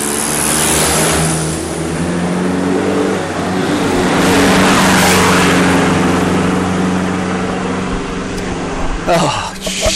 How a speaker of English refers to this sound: Oh shit, there's two cars coming. What are they doing? I'll point the microphone at it.